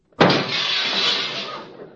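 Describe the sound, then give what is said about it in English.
A cheap, half-glass car door slams hard and glass shatters at once, a loud sudden crash followed by about two seconds of scattering, tinkling debris that slowly fades. No voices. “Get in the car and close the door.”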